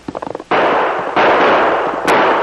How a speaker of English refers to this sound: He fired several more shots over his shoulder while retreating at top speed.